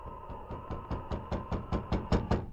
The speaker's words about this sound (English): Early the next morning, the man named Keogh stopped at Clem Andre's cabin. When there was no reply to his knock on the door, he lifted the latch.